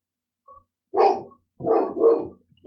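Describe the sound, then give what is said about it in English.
Dogs barking outside in a quick run of about four rough, mid-pitched barks, a couple close together, with no talking. “Can you hear the dogs?”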